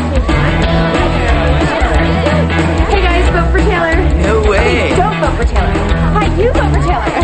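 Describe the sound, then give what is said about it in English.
A dense crowd of students at a school chattering at once as they watch students rap, many overlapping voices forming a loud, steady hubbub that fills the whole stretch without pause. “A crowd watches as students rap.”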